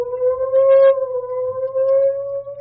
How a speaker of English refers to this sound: Remember that program of May 21st? The ambulance rushing toward a tumble-down...